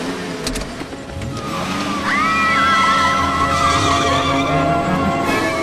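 A patrol car engine revs up and accelerates away after an ice cream van, its whine climbing in pitch and growing loud after a couple of seconds, with a brief tire squeal and no voices.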